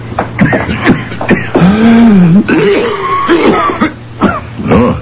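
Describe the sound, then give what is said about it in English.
A harsh, rough cough, a fit of several loud hacking bursts and throaty, strained clearing spread over about five seconds, with no talking. “That's not a good sounding cough, brother.”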